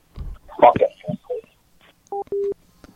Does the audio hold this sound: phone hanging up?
yes